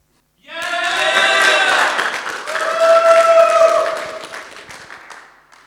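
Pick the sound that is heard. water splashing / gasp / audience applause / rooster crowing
audience applause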